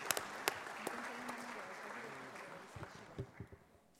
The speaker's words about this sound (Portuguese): Uma salva de palmas a todos.